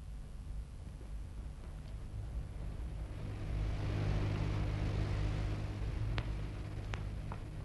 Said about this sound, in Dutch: Ik hoor alleen storing.